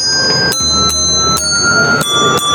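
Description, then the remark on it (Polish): Small hand bells from the Polish educational furniture firm Nowa Szkoła, which sync with its music notes, ring out in a loose rhythm, about five bright strikes whose clear, overlapping tones hang and shimmer between hits, fairly loud with no voices. “Możemy zagrać na dzwoneczkach, które synchronizują się z naszą świetnymi nutami.”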